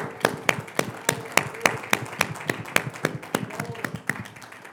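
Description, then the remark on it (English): An audience claps in a steady, even rhythm, roughly three sharp claps per second, over a soft bed of crowd noise with no one speaking. “It's not just a it's worth clapping, but”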